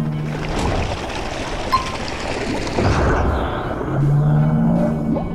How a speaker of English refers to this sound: Submarine, here we come. Opening outer hatch.